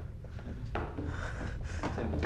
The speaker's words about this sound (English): Isabella follows Ben upstairs. Ben opens a bedroom door and creeps inside.